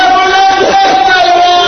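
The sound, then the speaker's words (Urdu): A large audience loudly chants a religious slogan (salawat) in unison, many voices merging into one sustained, roaring call that fills the whole moment. “ماشاء اللہ, اس وقت اس نعرے نے مجھے سہارا دیا.”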